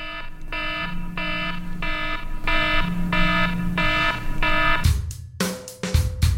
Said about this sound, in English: Oh, is that our timer?